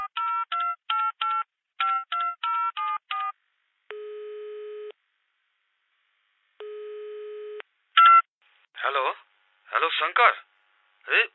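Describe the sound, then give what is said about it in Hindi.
A quick run of about a dozen telephone keypad beeps in short bursts as someone calls a friend, followed by two long ringback tones with a pause between, then a voice begins talking. “आई हमरा बड टेंशन है, देख हम अपन साथी के फोन करबो।”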